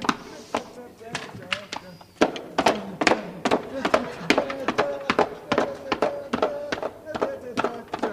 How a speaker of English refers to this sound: He was able to recreate the sounds of an entire chorus line of dance hall floozies doing a dance.